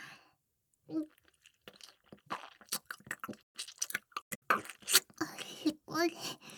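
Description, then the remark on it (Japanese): Wet chewing of food with irregular crunchy bites and smacking mouth sounds, interspersed with soft breathy vocal noises, loud throughout. “もぐもぐして、しょっぱくて不自由な食感。”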